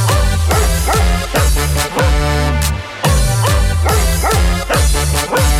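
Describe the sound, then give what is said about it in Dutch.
A Keeshond dog named Kees barks loudly in a steady rhythmic series, about a dozen short barks evenly spaced over continuous musical backing, with no one talking. “Mijn hond, dat is een Kees-hond.”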